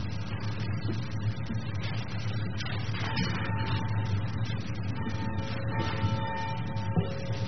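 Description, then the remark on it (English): A church bell rings with a steady, ongoing clang, its sustained ringing tones hanging over a dense, continuous wash of resonance. No one speaks. “So with that, we will ring the bell.”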